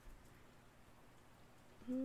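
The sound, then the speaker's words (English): Soft, steady rain hisses and patters at a low, even level throughout, with a brief louder sound cutting in right at the end. “No towels. It's raining. What's the point?”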